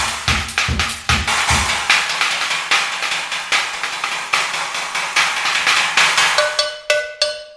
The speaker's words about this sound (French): Et ça, c'est quoi? Une cloche de vache.